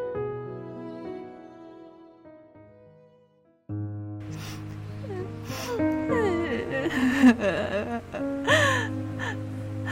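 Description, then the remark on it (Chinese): Soft music plays, then a mother breaks into loud sobbing in the middle of the night, with gasping breaths and wavering wails that rise and fall over the continuing background music. “妈妈别哭，半夜我被妈妈的哭声吵醒，我想安慰妈妈，但我无法说话，只是睁大着眼睛看着她。”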